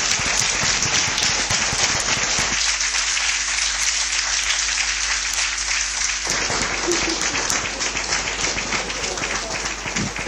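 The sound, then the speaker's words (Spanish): Loud, sustained applause from an audience after a speech at a Disability Day (Día de la Discapacidad) celebration, dense overlapping claps filling the full length without pause, with a few faint steady tones humming underneath partway through. “Esos aplausos con tanto ánimo demuestran la buena labor que hacéis y lo que los usuarios quieren.”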